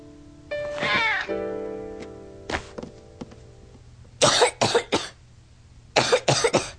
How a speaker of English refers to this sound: Caillou felt hot and was coughing, and he knew what that meant.